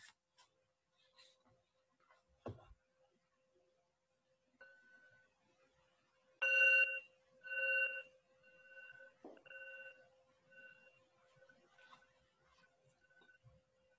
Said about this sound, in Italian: Chiederei gentilmente un suono di campana.